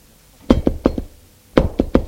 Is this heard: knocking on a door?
yes